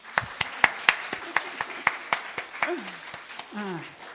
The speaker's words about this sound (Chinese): 多谢咁多位，多谢咁多个单位吓，制作呢一咁多趣致又鼓励嘅短片，我哋一齐拍手掌。